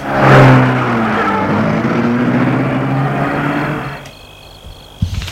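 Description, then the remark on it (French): A car engine roars to life, revving loudly, then steadily recedes as the vehicle pulls away, fading to near quiet with a brief knock at the end. “Gilles remet la voiture en route.”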